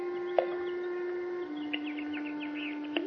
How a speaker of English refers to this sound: What's that? Birds playing in the fish pond. Look at them. Happy birds. They're hissing.